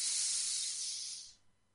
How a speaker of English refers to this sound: Another deep breath in. Just think of it as a beautiful healing breath. Just bringing it in. Letting go of all the heaviness and just breathing another quick breath.